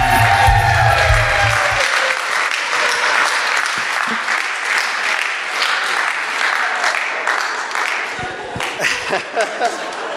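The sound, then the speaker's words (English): A crowd at a church service claps after a short play ends, in a steady, dense wash of applause lasting about ten seconds, with a low rumble at the start and a few louder individual claps near the end. “Well, applause from my actors, please.”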